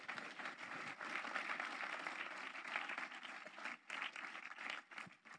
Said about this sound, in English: Give the Lord a big clap this morning. Will you do that?